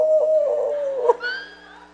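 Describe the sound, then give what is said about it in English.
A person imitates a little black dog howling along with people singing: a long, sustained hoot-like tone that drifts downward, then breaks into a higher, thinner wail that fades out. Fairly loud, with no other talking. “And there's this dog. Howl!”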